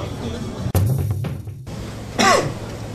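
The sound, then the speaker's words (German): A single short, loud cough into the microphone during a recording, sharp and breathy, standing out against a quiet hum after a brief muffled bump. “Hustest du gerade in unsere Aufnahme rein?”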